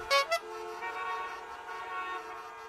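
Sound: horn honking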